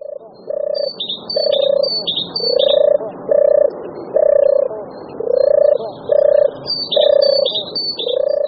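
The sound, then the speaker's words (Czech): A European turtle dove gives its soft, rolling purrs in a steady series of repeated phrases, while other small birds chirp faintly in the background. “Na chvíli jsme se zaposlouchali do hlasu hrdličky divoké.”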